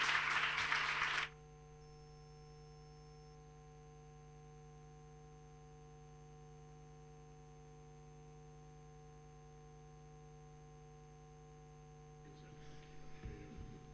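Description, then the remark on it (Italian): A brief burst of audience applause at a panel discussion, given before the next speakers take the table, fills the first second or so, then cuts off abruptly, leaving a steady low electrical hum with faint shuffling toward the end. “Allora io farei un cambio di tavolo e passiamo agli interlocutori successivi dopo un doveroso applauso.”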